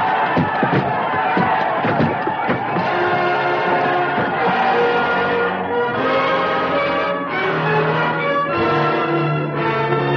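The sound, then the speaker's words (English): A large crowd pours through gates, roaring and shouting in a dense, continuous wall of noise, with ringing bells mixed in, loud throughout. “The crowd outside, they're pouring through the gates. Coming this way.”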